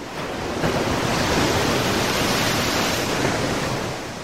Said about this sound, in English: Suddenly, a big wave splashed over him.